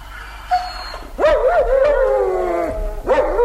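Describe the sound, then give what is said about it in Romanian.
A dog down in a ravine yelps sharply, then lets out a long, wavering whine that rises and falls before breaking into another yelp, clear with no talking. “coboară în râpă după câine. Auză-l cum scheaună.”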